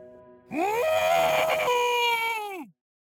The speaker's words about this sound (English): Drake runs to his bed, throws himself on it, and screams into his pillow.